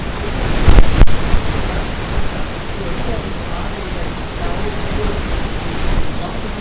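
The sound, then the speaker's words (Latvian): A steady, continuous rush of flowing river water, fairly loud, holding an even wash of noise throughout with a brief knock near the start. “Tā ir upe.”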